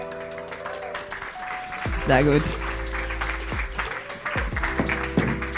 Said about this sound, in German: Wir sind heute in Zürich. Ihr hört vielleicht auch etwas das Publikum. Liebes Publikum, macht euch mal hörbar. Mini kleiner Applaus fürs Publikum.